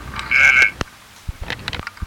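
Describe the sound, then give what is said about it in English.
A single short, raspy frog croak lasting under half a second, followed by a few scattered soft clicks and taps. No one speaks. “And the frog says.”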